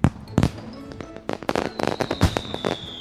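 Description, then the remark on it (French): A rapid series of fireworks bursts, sharp cracks and thumps popping irregularly, with a faint high whistle trailing through the later explosions. “C'était le bruit du feu d'artifice.”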